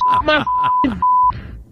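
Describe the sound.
A steady high-pitched censor bleep cuts in three times over a shouting voice, each tone lasting a fraction of a second, with bursts of speech squeezed between them.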